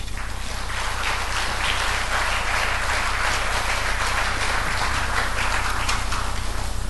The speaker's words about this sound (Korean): 함께 하나님께 영광을 돌리는 시간이 되었으면 좋겠고 선교사님 나오실 때 큰 박수로 환영하시겠습니다.